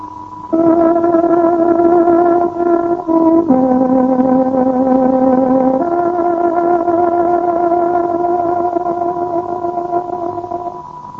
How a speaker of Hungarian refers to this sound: Kedves hallgatóink, néhány másodperc múlva, 6 órakor megszólal tárogatónk hangja.